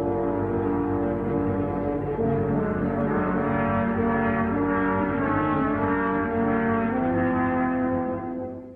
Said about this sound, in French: Et enfin, le grand loup gris qui sort du bois. Écoutez les trois corps sévères et sombres.